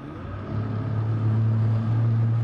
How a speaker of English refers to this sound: Florida Fish and Wildlife Officer Steve Rice fires up his boat and scours the river.